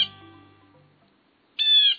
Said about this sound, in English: If we had to pick one bird's voice to symbolize our eastern woodlands, the blue jay's voice would likely be it. Its familiar calls ring year-round through deciduous forests east of the Rockies.